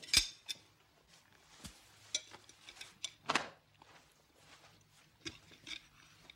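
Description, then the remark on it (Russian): Plates and cutlery clink sharply at a dinner table as a plate is taken away, a scattered series of bright metallic taps and scrapes, with a faint low hum in the background and no talking. “Зина, примите у Шарикова тарелку.”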